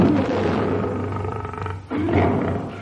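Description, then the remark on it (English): A lion roars loudly in one long, rumbling roar, breaks off briefly, then roars again, deep and gravelly, with no voices. “Later in the partnership, Ziegfeld sponsored Sandow against a lion, a fight which Sandow won, although it was rumoured that the lion, being a non-union member, was a blackleg.”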